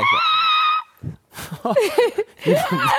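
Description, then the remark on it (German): A person loudly imitates a tortoise's mating scream with one sustained, strained, high-pitched screech, followed by animated talking and laughter. “Hast du schon Schildkröten bei dem Geschlechtsverkehr? Bei Geschlechtsverkehr. Boah, krass, richtig krass. Beobachtet. Sehr laut. Die schreien auch.”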